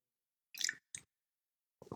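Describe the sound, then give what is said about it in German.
Close to the microphone, someone takes a sip of water and swallows: three short wet gulping sounds separated by brief pauses, with no talking. “Normaler Mensch, ich trinke jetzt mal eben einen Schluck. Ich komme mal extra näher ans Mikrofon.”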